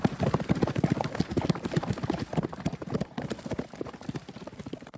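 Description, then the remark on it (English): Horse hooves gallop in a fast, steady clatter of dense hoofbeats on hard ground, loud at first and gradually fading slightly as the horse moves away. No one speaks. “He quickly mounted up and rushed to follow.”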